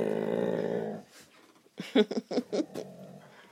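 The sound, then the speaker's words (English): A dog with a toy in its mouth growls, its voice muffled by the toy: a steady rumbling growl, a brief pause, then several short grumbling bursts in quick succession. “Sounds like a wolf, doesn't it? Or a fierce dog.”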